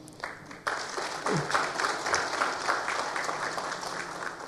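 An audience breaks into steady applause for a guest, a dense wash of many hands clapping that starts abruptly and holds at a fairly even, loud level, with a faint voice at the very beginning.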